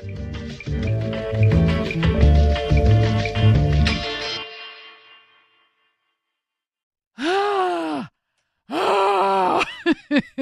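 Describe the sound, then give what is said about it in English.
A music bed fades into silence, then a voice does two loud vocal warm-up glides in preparation for on-air work, each swooping up and back down in pitch like a siren, the second longer and wavering. “Listen, I was in musical theater for like 20 years, and I've never heard a warm-up like that. I'm warming up.”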